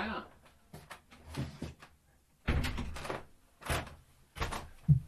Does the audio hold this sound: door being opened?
yes